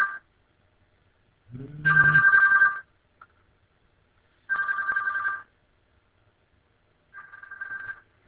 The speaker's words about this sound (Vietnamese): Điện thoại nó reo mà chúng tôi không có bắt, thì chúng tôi nhốt cái điện thoại vô tủ luôn rồi. Cho nên nó không có reo lớn được nữa.